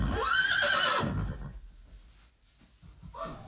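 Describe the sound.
A loud, shrill horse whinny rings out for about a second and a half, trailing off into quiet before a brief, softer snort-like sound at the end.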